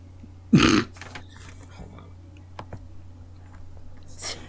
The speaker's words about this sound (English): soft hiccups in the background.